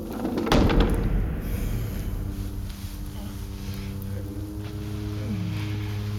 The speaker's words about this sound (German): So bekam er nicht mit, dass sich die Tür plötzlich öffnete.